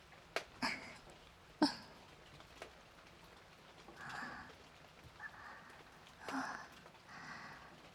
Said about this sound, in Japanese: 雨降ってきた。